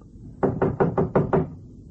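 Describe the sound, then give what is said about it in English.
Six quick, firm knocks on the door of Quentin Baxter's apartment, 1810, on the 18th floor, in an even rhythm, each a sharp hollow rap, with no voices during the knocking. “Knock.”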